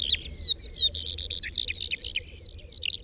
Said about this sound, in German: Und dann die Lerche.